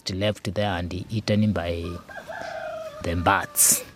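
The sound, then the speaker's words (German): Chickens cluck in quick, clipped bursts before a rooster lets out a loud, strained crow, followed by thinner bird calls and a final sharp squawk in the background. “Einen kleinen Teil fressen auch Hühner und andere Vögel.”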